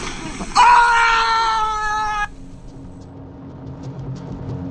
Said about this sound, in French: un cri, mais différent, un cri choral, 10, 20, 30 manifestants qui hurlent ensemble, d'effroi et de colère, les putes, les flics. Un hurlement et une cavalcade.